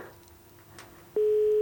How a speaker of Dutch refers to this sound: De wekservice. Er gaat een telefoon over.